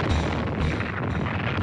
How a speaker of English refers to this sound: War has its trademark sound. For World War I, it was boots marching. World War II, German buzz bombs.